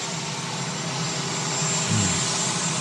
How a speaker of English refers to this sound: Yes, the dulcet sounds of the auxiliary power unit on the helicopter.